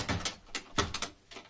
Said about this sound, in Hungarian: Zárd be az ajtót, ki lesz a gyerek!